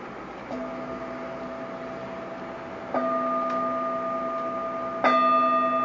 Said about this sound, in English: Now in a moment, I'll ring the bell, which in this case will mean the end of the sitting.